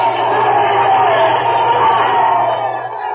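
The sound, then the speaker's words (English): A sound effect of a crowd of children, fellows and girls collecting Wheaties Champ Stamps, cheering and shouting together in one loud, steady roar of many overlapping voices that holds without a break for about three seconds, easing only slightly at the end. “Yes, those are the cheers of the fellows and girls who are discovering how much fun it is to collect Wheaties Champ Stamps.”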